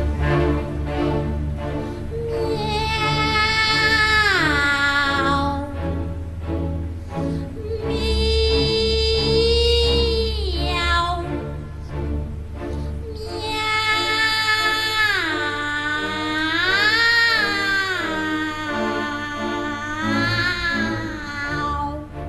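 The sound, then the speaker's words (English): Rossini's cat duet: two operatic voices sing meowing phrases, sliding up and down in pitch in long, loud, swooping lines over a steady accompaniment, pausing briefly between phrases. “It was funny when I discovered that Rossini has his cat duet.”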